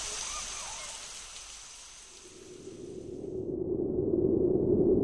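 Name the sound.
rain falling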